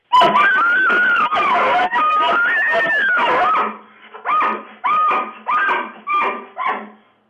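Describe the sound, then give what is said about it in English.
Family members imitate an elk bugle with high, wavering whistled squeals that rise and fall for several seconds, then break into four short, sharp whoops in a row. “Now, do you guys have like a family elk call that we could go out with?”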